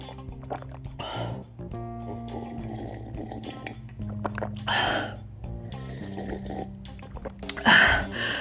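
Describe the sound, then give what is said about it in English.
Sips of water, with three or so short slurping gulps spaced a few seconds apart and a breathy exhale after the last, over a steady low tonal hum. “Let me sip on some of this water.”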